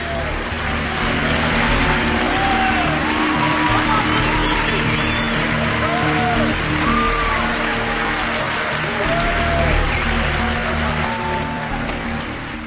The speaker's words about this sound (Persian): خواهش میکنم تشویق کنی استاد دیجون بروس لی.